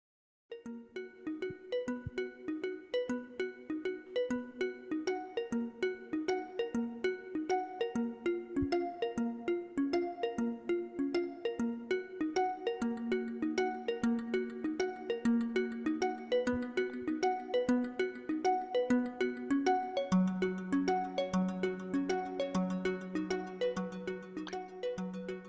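Instrumental music played on radio station KPFD in Houston, with bright, chiming tones in a steady rhythmic pattern over sustained lower notes, with a deeper resonant bass tone entering near the end; no voices.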